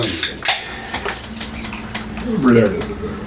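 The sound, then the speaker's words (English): A drink is poured into a tall glass at close range, with clinks and a rising gurgle as it fills, amid background chatter and clatter. “Oh, you went for the big tall one. That takes forever to settle in that glass.”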